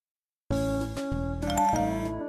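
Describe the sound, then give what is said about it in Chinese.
A bright electronic message chime signals incoming photos, starting after a short silence, a run of about four sustained, harmonically rich tones that shift pitch in steps and stay loud to the end, with no voices. “叮咚传照片来耶。”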